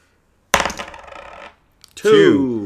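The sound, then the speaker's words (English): Dice are tossed onto a hard table during a board game, a sharp clatter that rattles and tumbles for about a second before settling on a two, followed shortly by someone speaking. “If I can roll a four.”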